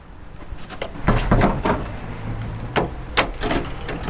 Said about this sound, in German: Sie öffnet eine schwere Tür und deutet mit beiden Händen auf reich verzierte Wände im Neo-Renaissance-Stil.